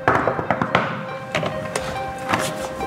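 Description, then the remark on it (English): Firm, hollow knocks on the door of Ron Kuby's office come in a few uneven bursts, fairly loud, over a faint steady background hum with no one talking. “Please knock loudly.”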